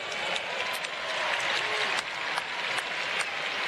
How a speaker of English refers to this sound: Well, prior to the presentation of the State of Origin Bushfire Trophy, let us first acknowledge the performance of the All-Stars with a round of applause.